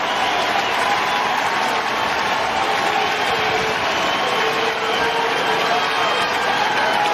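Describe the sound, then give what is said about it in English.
A large baseball stadium crowd applauds and cheers in a sustained, steady ovation as Bell goes off after being tossed from the game. The broad roar of clapping fills the space for several seconds without letting up. “But Bell goes off to an ovation.”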